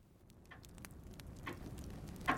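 A wooden cuckoo clock ticks softly, a series of faint, dry clicks over a low background rumble, with no one speaking.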